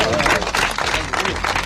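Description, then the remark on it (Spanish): A crowd applauding steadily, a dense wash of many hands clapping at a fairly loud, even level with no single claps standing out, ending a minute of silence in homage to three members of a family from Chiloeches, Guadalajara, Spain, who were killed. “Son los aplausos con los que ha terminado el minuto de silencio en homenaje a los tres miembros de una familia de Chiloeches, Guadalajara, asesinados de múltiples cuchilladas en la madrugada del sábado en su vivienda.”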